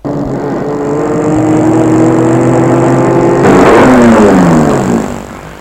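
A car engine hums steadily, its pitch shifting as the vehicle slows and pulls up in front of an apartment building, then the sound cuts off abruptly near the end.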